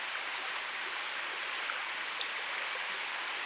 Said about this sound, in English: The plan on this pool is to sort of try and put me fly, and there's a slight cross current as the water comes out of a very deep bowl right up near the rocks. There's usually fish lying just in that seam of slightly faster water.